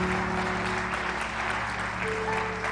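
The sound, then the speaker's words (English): A crowd claps steadily to welcome everyone who has joined, a dense wash of many hands applauding together at a constant, fairly loud level, with faint sustained tones humming underneath. “Let's just clap our hands and welcome everybody that's joined us.”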